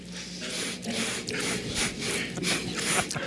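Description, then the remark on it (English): Loud nasal sniffling and snorting from a man repeats in quick, uneven bursts, one harsh breathy snort after another with no pause and no talking. “here's some tape of him not sniffling, as a matter of fact.”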